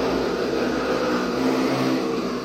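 A motorcycle engine drones steadily, a loud, continuous buzzing rumble that holds roughly even for a couple of seconds, with no one talking over it.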